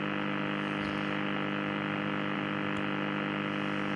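A steady, unbroken buzzing tone from a shortwave radio signal, thick with harmonics and overlaid with a hiss of static, holding at an even, moderate level throughout with no voices.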